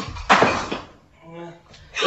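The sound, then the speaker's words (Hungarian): A valuable clock hits the floor and smashes with a sharp, clattering crash, followed by a brief scatter of debris and a voice speaking, then another burst of broken-piece rattle. “Ilyen értékes holmit összetörni, elj!”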